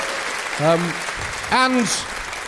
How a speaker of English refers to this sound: Give him a round of applause, there we are.